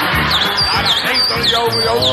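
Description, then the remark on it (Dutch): Birds chirp repeatedly in a steady rhythm, bright swooping calls about every half second, clear over a busy low background hum, as the birds perch on a person's shoulder and sleeve. “Moet je eens even kijken wat ze allemaal doen, die vogels.”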